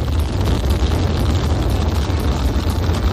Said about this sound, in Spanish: Así rugían los motores en el momento del despegue de la nave desde el Centro Espacial Kennedy de Florida.